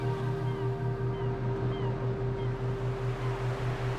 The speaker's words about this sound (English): Slowly, steadily, listening to the birds, the seagulls, soaring overhead.